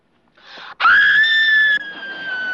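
A single loud, high-pitched scream bursts out after a short breathy lead-in, holding a sustained shrill tone for about a second before trailing off into a quieter continuing wail.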